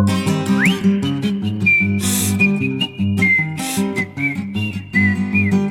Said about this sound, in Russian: Ёжик резиновый шёл, насвистывал дырочкой в правом боку.